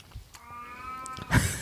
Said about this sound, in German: Ist übrigens, wenn ihr sehr merkwürdige Geräusche hört, ist unsere Katze.